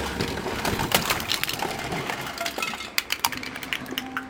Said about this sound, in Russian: Любимая машинка Тима разлетелась вдребезги